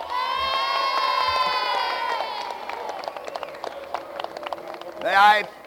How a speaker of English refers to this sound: And before we go 1 minute further, I think we ought to give this good friend of ours just a good round of applause to let him know how we feel about him in Pennsylvania.